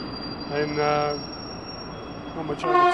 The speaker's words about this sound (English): So basically, here, we had, this is where the trains will pull up. This is your platform edge. So that way is Paris and Brussels and mainland Europe.